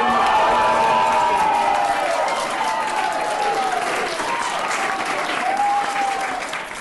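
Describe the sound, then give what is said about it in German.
A crowd of BDP party supporters in the Bern town hall applauds and cheers loudly and steadily on election Sunday as Werner Luginbühl's result of 142,000 votes is announced. Dense clapping throughout, with rising and falling shouts and whoops riding above it, fading slightly toward the end. “Der Jubel bei der BDP einmal mehr an diesem Tag riesengroß.”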